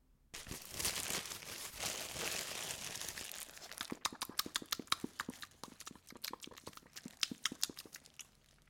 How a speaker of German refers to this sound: Da ist doch ein alter Metronom.